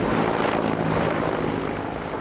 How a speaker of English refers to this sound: Soviet-era helicopter gunships roar overhead over a road jammed with military trucks belching noxious diesel fumes.